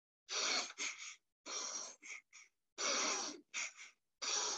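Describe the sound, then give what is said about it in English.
Quick, shallow breaths rasp in and out in uneven bursts, some long and some clipped short, loud and breathy with brief silences between, a voice deliberately imitating panicked, anxious chest breathing. “If you do the opposite of that breathing, you will induce yourself with anxiety.”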